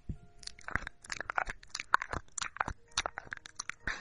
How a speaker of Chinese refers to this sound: 喵喵，我要用舌头舔主人了。主人，你是不是最喜欢我舔你了吗？你怎么了，主人？你怎么有一点点的怪怪的呢？主人，我要继续舔这边。